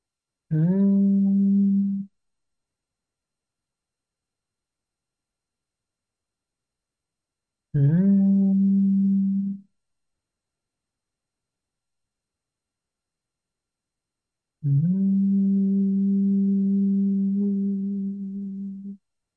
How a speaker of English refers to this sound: And you might even like to place your hands over your ears and hum three times on your exhalation, feeling your cranium resonating with your own voice.